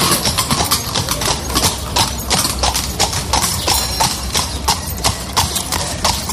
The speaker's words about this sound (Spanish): Los coches de caballos, un símbolo de esta ciudad.